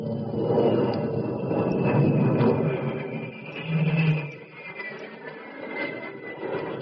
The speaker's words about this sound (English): You nudge the jet's nose a little further down. The river rushes into view, and then the bridge.